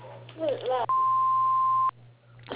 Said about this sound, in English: Please leave a name and number after the beep, and we'll get back to you as soon as we can.